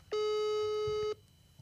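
phone call ringing tone

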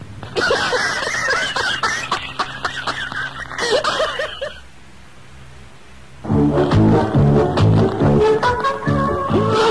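repeated coughing

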